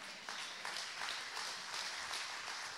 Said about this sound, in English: And I got the charismatic Pentecostals clapping.